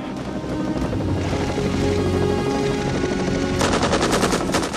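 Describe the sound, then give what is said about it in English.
Rapid bursts of machine gun fire from a helicopter peppering the jungle rattle over a steady low rotor drone, growing into a dense, fast stream of sharp shots near the end, loud and with no voices. “The chopper peppers the jungle with bullets”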